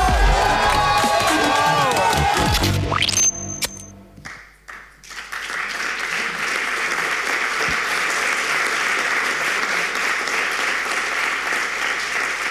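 A song ends and, after a brief pause, an audience breaks into loud, sustained applause with scattered cheering, a dense steady roar of clapping that continues to the end.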